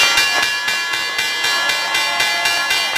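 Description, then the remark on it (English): A loud stock exchange opening bell rings continuously for about three seconds at 9:30 in the morning, signaling the opening of the markets, struck rapidly in an even, clanging rhythm like an electric opening bell, with no voices over it. “And while it's not the same as it was decades ago, you can still feel the energy peak every morning at 9:30 sharp, when the bell signals the opening of the markets.”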